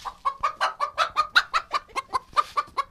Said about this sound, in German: So, jetzt sind wir hier an so einer Art Hühnerstall.